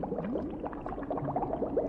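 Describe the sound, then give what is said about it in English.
Steady, thick bubbling of lab chemicals churning in a flask, a Halloween sound effect from the Scary Sound CD set in Dr. Frankenstein's laboratory, with dense overlapping gurgles and pops running continuously at a moderate level throughout. “It's lab chemicals.”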